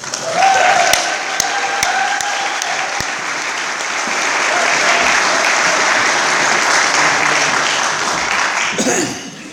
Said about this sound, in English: Now, let's give a round of applause for our 10-minute speaker, one of our own from South County,